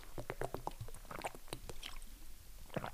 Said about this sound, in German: Ach Mensch, ich muss kurz einen Schluck Wasser trinken.